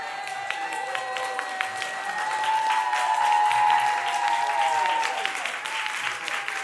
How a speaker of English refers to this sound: A cheer goes up as Obama gets off the plane. The whole city seems abuzz with his arrival.